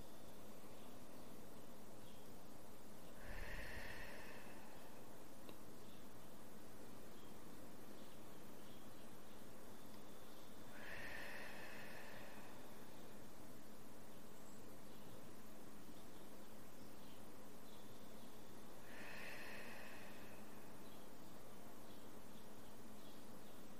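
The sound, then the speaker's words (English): Three slow, audible breaths spaced several seconds apart, each drawn in through the nose and ending in a soft airy exhale through the mouth, gentle over a quiet, faintly hissing background; taken with the right hand over the heart. “Let's take three breaths again together, breathing in through our nose and out through our mouth.”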